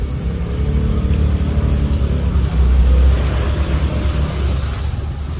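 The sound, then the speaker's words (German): A decorated motor scooter's engine hums loudly and steadily as it drives away, swelling briefly as it revs midway before settling back into a continuous low drone. No voices are heard. “Das ist sogar nur, wie sie ihr Scooter, ihr Roller hat sie noch so schön verziert und so.”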